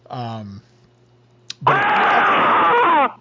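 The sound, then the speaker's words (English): A short voiced sound, a sharp click, then a loud, sustained human scream lasting about a second and a half, harsh, ending abruptly. “I heard a loud scream.”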